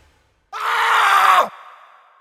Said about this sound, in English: There was a dull crunch, accompanied by a scream.